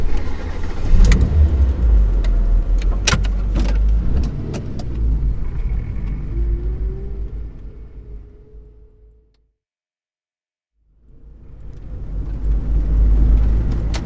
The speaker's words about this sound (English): Oh, I'm very nervous. Can you start the car, please? Okay.